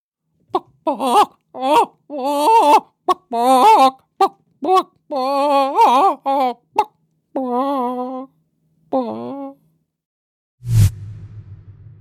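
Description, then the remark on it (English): A person imitates a chicken for a voiceover audition recording, with a run of short, choppy clucks building into longer, warbling squawks of wavering pitch, loud and without other talk, ending with a brief dull thump. “Well, I don't normally do this, and I have certainly never done this before, but since we're talking about it, I figured I'd give you a little sampling of the voiceover recording I submitted for that chicken audition.”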